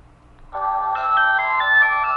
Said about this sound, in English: That's my cell phone. It's Fido. And just as soon as it comes, finishes coming on, I'll turn it off.